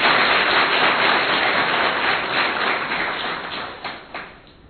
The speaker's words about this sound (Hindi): जोर से ताली बजा सकते हैं अपने।